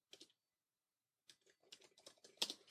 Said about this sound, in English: Now I've got a blank document, and I can start typing. So I write, good morning.